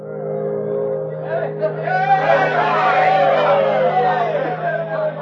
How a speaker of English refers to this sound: Cheers cut through the clear air as the Bonanza Bell steamed into port.